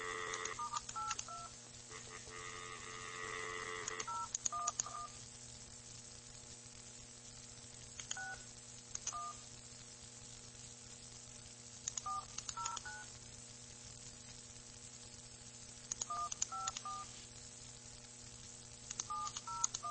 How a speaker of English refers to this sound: I got the phone number right here. Let's see. We'll call Australia.